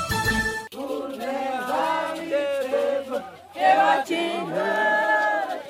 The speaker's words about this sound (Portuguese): A torcida da etnia Xerente, do município de Tocantinha, localizada a 80 quilômetros de Palmas, comemora a vitória na final masculina de futebol. Após empate em 2-2, no tempo normal, o povo Xerente venceu a Bolívia por 3-2 nos pênaltis.